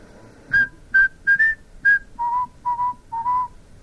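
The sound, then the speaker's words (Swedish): A person whistles a short, cheerful tune of about eight clear notes, the first few higher and the last several dropping lower, fairly loud with no one talking. “Han var glad och han visslade en stump.”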